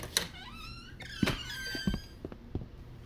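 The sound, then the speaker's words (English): A desk drawer rattles as it is tugged, giving several sharp knocks and thunks spaced irregularly, with a wavering high-pitched squeak running through the middle. No one speaks. “It's the desk drawer in there.”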